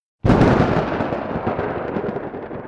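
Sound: loud clap of thunder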